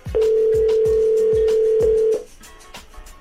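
A phone call ringing out: one loud, steady ringback tone lasting about two seconds, then cutting off, over a faint, steady thumping beat in the background.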